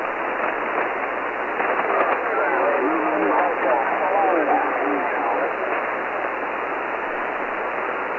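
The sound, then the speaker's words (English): Steady radio static with several faint, overlapping voices calling at once, distorted and buried in the hiss: a pileup of amateur (ham) radio stations answering an operator's QRZ call for stations in Europe. “I hear some stations calling.”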